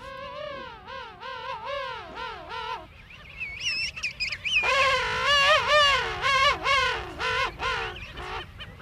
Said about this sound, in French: Donc là, ce sont les manchots royaux. Là, on entend des parents qui se répondent et un poussin entre les deux. Donc là, le poussin est vraiment ravi de voir ses parents arriver puisqu'il sait qu'il va être nourri.